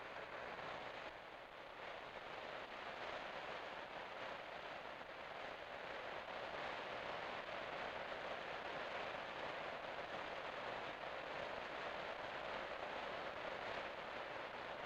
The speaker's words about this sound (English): That which you are hearing is the sound of rain.